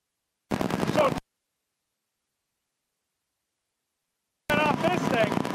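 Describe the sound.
Loud bursts of rapid exhaust popping from a 1932 Ford, an original Henry, at a car show, come in two short runs separated by a few seconds of silence, with voices mixed into the noise.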